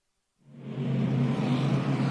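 After a brief silence, loud NASCAR race car engines roar in on pit road at COTA and keep droning steadily, with a rough, throaty rumble and slight wavering in pitch.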